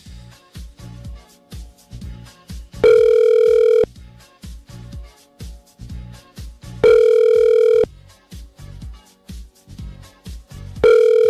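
A telephone ringback tone sounds on an outgoing call to a number in the two Savoies: loud, steady one-second beeps repeating about every four seconds, three in all, over soft rhythmic music in the background.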